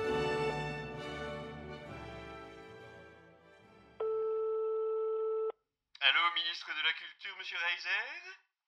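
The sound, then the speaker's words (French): Music fades out, then a single steady electronic telephone ring tone sounds for about a second and a half before a telephone interview begins, the voice slightly filtered as if over a phone line. “Alors voici, sans plus attendre, cette merveilleuse interview qui a été réalisée par téléphone vendredi dernier.”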